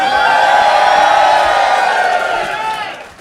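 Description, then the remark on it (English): A crowd in a room in Britain breaks into loud, sustained cheering and whooping at the mention of Matt Hancock's name, a dense wall of many voices that holds steady for a few seconds before gradually fading off. “Also, the second time in a row, the only room in Britain that has, or possibly the world, that has elicited a cheer, first at the mention of Matt Hancock's name.”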